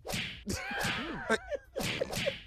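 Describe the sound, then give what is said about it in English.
A whip-crack beating sound effect: sharp, loud whip cracks snap out in an uneven series, roughly four lashes in quick succession, with high wavering squeal-like cries sliding between the strikes. “Y'all gonna quit punching me every day with this. They getting longer, though. This is extended whooping.”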